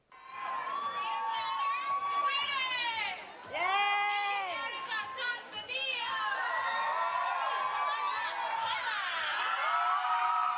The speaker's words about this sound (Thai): ครับเสียงกองเชียร์ชาวไทยจำนวนไม่น้อยเดินทางไปให้กำลังใจนางสาวมาริยาภูลเลิศลาภตัวแทนประเทศไทยบนเวทีประกวดนางงามจักรวาลหรือ Miss Universe ครั้งที่66ประจำปี2017ที่นครลาสเวกัสรัฐเนวาดา